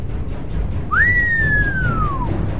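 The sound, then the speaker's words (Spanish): A single prolonged human whistle in an open valley that swoops up, then glides slowly downward for over a second, clear against a low, steady background rumble. “Fox emitió un prolongado silbido.”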